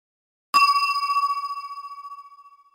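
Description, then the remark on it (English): A single bright chime, the page-turn cue in a reading of the book Jobs to Do, strikes once and rings out clearly on its own, its pure bell-like tone shimmering slightly as it slowly fades over a couple of seconds. “When you hear this sound, it means you have to turn the page.”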